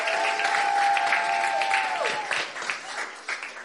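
A room full of people applauds with dense, steady clapping that slowly thins out, a long high whistle-like tone riding over the first couple of seconds.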